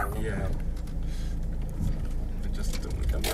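A car drives steadily along the road, heard from inside the vehicle, its low engine and tyre rumble continuous, with no clear speech.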